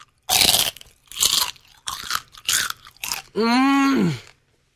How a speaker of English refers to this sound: So that was chicken skin. A little music covering up my chewing.